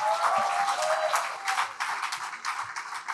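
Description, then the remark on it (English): An audience gives a clap offering to the Lord after a prayer, a dense, steady wash of many hands clapping at once with faint voices mixed in, holding a fairly even level throughout. “Can we give a clap offering to the Lord?”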